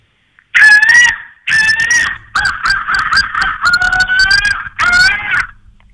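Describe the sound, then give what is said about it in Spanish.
A person on the telephone loudly imitates a goose's loud honk, giving a series of harsh, nasal honks in several bursts, some long and wavering, others choppy and rapid, with brief pauses between them. “graznido fuerte.”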